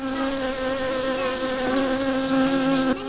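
A wasp buzzes steadily and close by, a continuous droning hum with slight wavering in pitch, heard alone for about three seconds.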